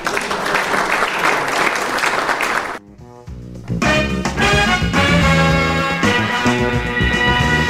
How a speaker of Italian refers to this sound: credo che un applauso vada alla memoria di Carlo Monguzzi che oggi ci ha lasciato.